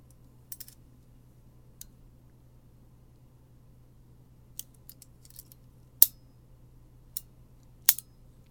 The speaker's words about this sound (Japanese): 手錠をつけます。片方はもうはまってるので、もう片方をはめていきます。